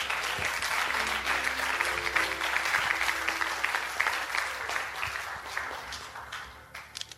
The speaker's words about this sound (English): Amen. Hallelujah. Clap your hands.